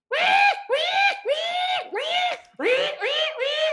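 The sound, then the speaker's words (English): A voice imitates a pig's bellowing scream: about seven loud, strained squeals in quick succession, each rising then cut off, with no talking. “As soon as I turned around, I heard this belloping, like, scream.”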